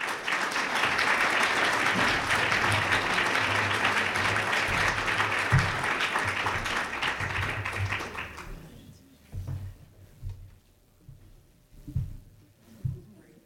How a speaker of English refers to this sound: So come on up, give Kathleen a round of applause.